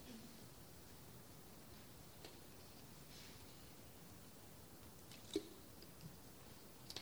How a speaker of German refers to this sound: Guckt euch doch einmal kurz den Vers 4 an und ich trinke einen Schluck Wasser.